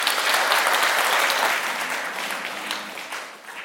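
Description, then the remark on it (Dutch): A crowd claps steadily for two guests on stage, a dense wash of many hands applauding together that gradually thins and fades toward the end. “Geef ze een applaus.”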